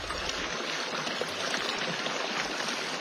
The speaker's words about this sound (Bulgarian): Чуйте. Водата вече прилива през бента.